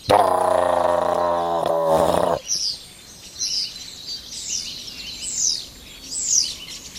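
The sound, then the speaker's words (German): A starling singing overhead gives a run of five sliding, downward whistles, evenly spaced and high-pitched. They follow a loud, low, buzzing harmonic drone that fills the first two seconds. “Und jetzt geht's gerade richtig ab, der Star kommt in Fahrt über uns.”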